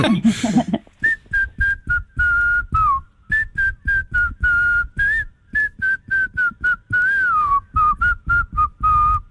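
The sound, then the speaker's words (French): A person whistles a birdlike song imitating a nightingale: a long run of short, clear notes at a fairly steady high pitch, broken by quick warbles and downward slides. “Ou plutôt au rossignol. Chante, rossignol, chante.”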